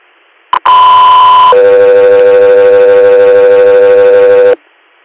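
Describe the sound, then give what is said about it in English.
A loud two-tone radio dispatch alert sent to an air unit: a brief click, then a steady higher tone for about a second, followed by a longer, lower sustained tone lasting several seconds, with no voices. “Echo 3 Air, stand by for tone.”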